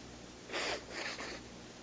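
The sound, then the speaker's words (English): Someone blows their nose in two quick, breathy honks, a longer one followed by a shorter one, with no talking. “I've been blowing my nose for like 10 days.”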